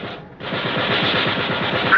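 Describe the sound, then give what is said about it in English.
A ship's gun fires at an approaching target about 1,500 yards away in a rapid, unbroken stream of shots with a steady rhythm over a dense, roaring wash of noise, loud throughout after a brief dip near the start. No voices. “Get on that gun, Mr. Hayes. When you see him, fire.”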